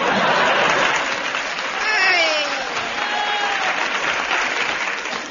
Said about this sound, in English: Enter Blue Bottle. Pauses for audience applause.